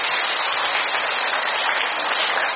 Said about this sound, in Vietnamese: Một tràng pháo tay thật lớn để chúng ta chúc mừng.